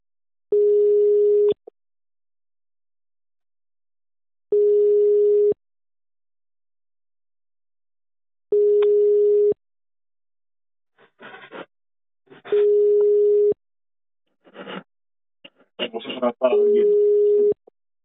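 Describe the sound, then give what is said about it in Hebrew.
A telephone busy signal for a busy phone extension repeats five times, each steady low beep lasting about a second with long gaps between. In the second half, a voice speaks in Hebrew in the pauses and over the tones, announcing that the requested extension is busy. “השלוחה המבוקשת תפוסה.”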